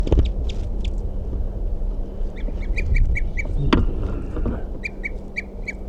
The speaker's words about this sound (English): Recording 9:17, and there's tooping in the nearby tree. A couple fighting going on. Not who's who or anything.